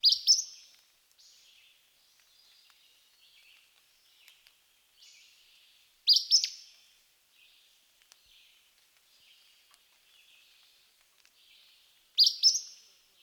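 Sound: flycatcher song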